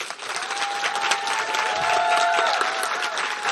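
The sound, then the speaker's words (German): An audience of guests in a monastery garden claps steadily for a few seconds, a dense, even wash of applause with a few faint tonal whistles or cheers ringing above it. “Wenn Sie einen großen Applaus geben, sollte das wahrscheinlich dann auch zu hören sein.”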